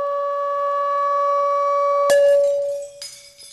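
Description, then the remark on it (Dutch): A loud, steady pure tone of 1 watt acoustic energy, about 120 dB, rings for about two seconds, then a sharp burst as a glass shatters, followed by scattered tinkling fragments while the tone fades out. “En toen brak het glas dus.”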